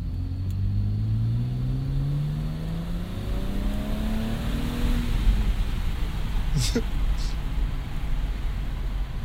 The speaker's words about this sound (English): All right, I'm downshifting.